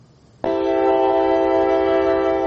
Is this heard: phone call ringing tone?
no